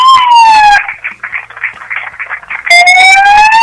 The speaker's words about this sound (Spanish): Y ahora, que suene la sirena. Ahora que sí.